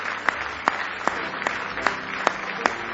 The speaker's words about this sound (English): Give the Lord a great hand clap of praise tonight.